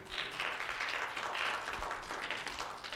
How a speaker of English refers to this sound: Somebody clap your hands right there.